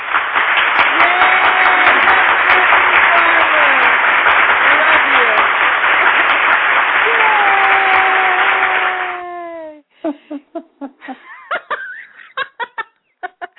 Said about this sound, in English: I've got applause buttons. God bless it. I'm going to use them.